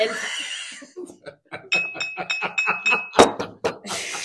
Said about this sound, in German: Ist ja schon wieder der Becher runtergefallen. Mein Gott, was ist da denn passiert?